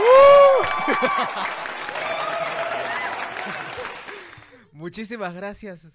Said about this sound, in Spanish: Aplausos, por favor.